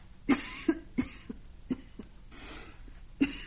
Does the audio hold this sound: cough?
yes